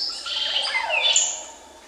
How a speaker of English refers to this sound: And it's like, oh my God, that can really be a bird and sound so musical. It sounds like music.